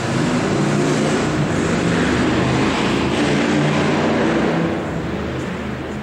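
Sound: motorcycle passing by outside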